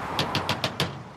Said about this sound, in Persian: یه زن در خونه رسول رو میزنه.